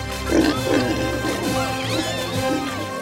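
Several pigs oink and grunt together in a lively, overlapping chorus, fairly loud, with squeals rising over the low snorts throughout.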